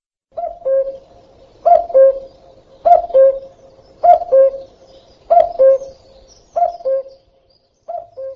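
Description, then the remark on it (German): A common cuckoo calls its clear two-note, falling "cu-coo" about seven times in a steady rhythm, loud, with short pauses between calls and no other sounds. “Jeder weiß, dass er seine Eier in fremde Nester legt. Es geht um den Kuckuck.”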